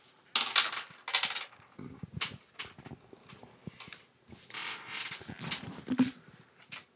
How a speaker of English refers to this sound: So everyone remember how the tilt works? We roll our dice.